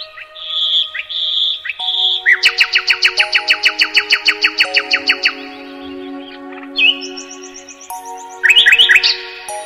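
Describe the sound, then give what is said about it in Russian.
A nightingale sings alone, loud, moving from clear whistled phrases into a fast, rhythmic run of repeated notes, then bright rising whistles and a final burst of quick trills. “С тех пор скромный соловей стал лучшим в мире певцом.”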